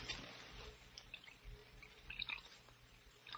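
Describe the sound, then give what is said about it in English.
Burgundy wine pours into a goblet with a steady liquid trickle and gurgle, with small drips and light clinks of glass, fairly quiet with no talking. “You'll have to pour the wine yourself, Harvey. All right, I will.”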